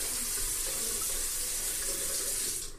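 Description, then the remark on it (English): A faucet runs in a steady hiss of water splashing into a sink as hands are rinsed and washed, then cuts off abruptly near the end as the tap is shut. No one speaks. “Alright, you got them all rinsed off, washed up good. Turn the water off.”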